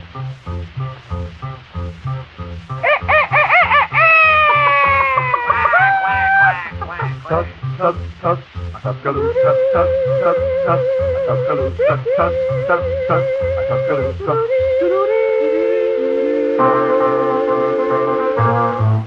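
A 1940s vocal group record plays loud, with gliding, harmonized voices over a steady bouncing bass rhythm and sustained held notes, continuous throughout.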